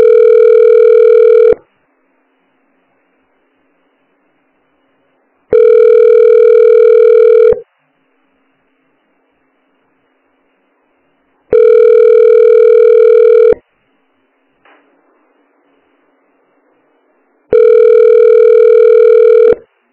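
A telephone ringback tone repeats four times while a call is transferred to the tax department, each steady buzzing burst lasting about two seconds with roughly four seconds of silence between, clear, with a faint click in one gap.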